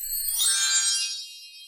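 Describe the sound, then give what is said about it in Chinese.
A page-turn chime signalling to turn to the next page of a children's book: a single bright, high-pitched chime with a shimmering, bell-like tone that slowly fades away over about a second and a half. There is no talking. “这个声音，要翻到下一页哦。”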